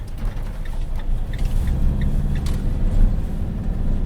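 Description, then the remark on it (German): A heavy truck with a trailer attached rumbles steadily, a deep low drone with a brief hiss of air brakes, as it pulls away from the zoo's inner courtyard toward Leimedal, without any talking. “Er hängt den Anhänger an und verlässt den Zolli in Richtung Leimedal.”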